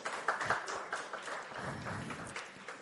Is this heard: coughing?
no